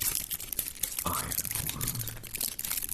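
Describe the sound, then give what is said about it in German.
Dry, brittle serrated wrack (Sägetang), a seaweed material, crinkles and crackles as it is handled, a dense run of small crisp snaps and rustles with a low voice murmuring briefly underneath. “Hört sich auch schon fast so ein bisschen an, wie es vielleicht heißt.”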